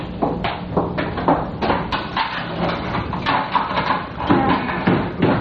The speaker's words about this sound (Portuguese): Meu Deus, tem alguém batendo na porta da loja.